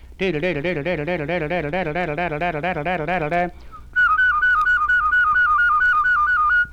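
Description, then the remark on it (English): A whistler demonstrates whistling: his voice makes low, rapidly pulsing double notes for about three seconds, then after a short pause a clear, higher whistle repeats quick two-note warbles, loud. “You might do this with your voice to get the low double notes too.”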